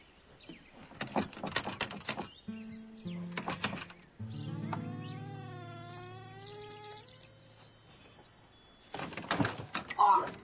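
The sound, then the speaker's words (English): A door handle rattles and clicks a few times, then the door swings open with a long, wavering creak, followed by more clattering at the end. “Look, try the door.”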